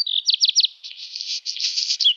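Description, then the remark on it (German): A black redstart sings: a quick run of bright whistled notes followed by a dry, scratchy crunching phrase, heard clearly on its own with no voices. “Das ist der Vogel des Jahres 2025. Der Hausrotschwanz, ein recht verbreiteter Vogel bei uns in den Siedlungen, kommt auch in die Gärten”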